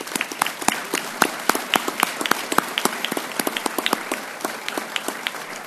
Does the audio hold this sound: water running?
no